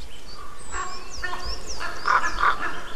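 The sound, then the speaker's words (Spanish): A pair of common ravens croak in flight overhead, a few harsh, hoarse calls spaced irregularly, with thin whistling birdsong and faint background ambience around them. “Una pareja volando, por ahí arriba, crocitando, cro.”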